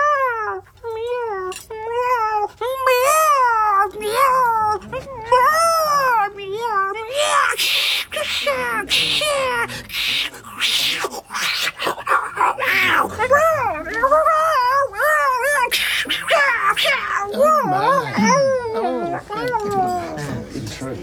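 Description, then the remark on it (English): A man's voice mimics two cats fighting in a backyard, with long wavering yowls and rising, warbling cries that turn into harsh, overlapping screeches and snarls, loud, continuing for about twenty seconds. “have you ever heard two cats fighting in a backyard? I had to perform it once in a smoking concert at Oxford.”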